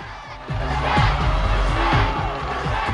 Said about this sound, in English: As the music swells, the crowd surge forward towards the stage.